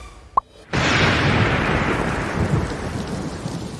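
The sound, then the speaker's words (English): A sharp thunderclap bursts in after a brief click, then rolls on as a loud, sustained rumble over steady rain, slowly fading but never dying out. No voices. “The candlelight flickers in the castle during the storm”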